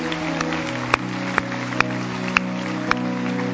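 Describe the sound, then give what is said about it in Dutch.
An audience at a Christian worship service applauds after a prayer in a dense, steady wash of clapping that holds for several seconds over sustained musical tones, with a few sharper accents standing out at regular intervals. “Laten we een applaus geven aan de liefde van onze weg.”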